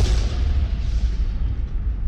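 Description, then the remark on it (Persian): A loud, deep explosion of the ground underfoot, caused by a shot fired from afar, with heavy low-end rumble and scattered debris noise rolling steadily for a couple of seconds, without any voices. “اما همین که دستش را دراز کرد تا آن را بگیرد، خاک زیر پایش منفجر شد.”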